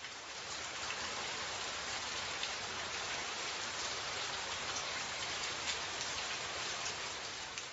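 Steady rain falls without pause, a dense, even hiss with faint scattered patter of drops on a surface. No voices; the downpour stays at a constant moderate level throughout.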